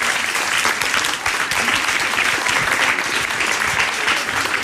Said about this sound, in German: Und wie es heute ums Groove-Magazin steht, besprechen wir mit, und ich bitte um einen tosenden Applaus,